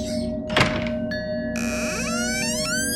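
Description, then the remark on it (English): A door opens with a solid thunk of the latch, then a drawn-out, whining creak of hinges that wavers and rises as it swings, fairly loud, with no voices. “And this door. It's dark. No idea where it goes.”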